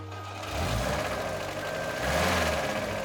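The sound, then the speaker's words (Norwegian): A car engine runs steadily, a low rumbling drone with a slight rise in revs near the end, and no voices over it, as a chauffeur drives the car down Blindernveien, over the railway line and up a hill. “Denne morgenen tar Martinsen bilen. Han blir kjørt av sin sjåfør nedover Blindernveien”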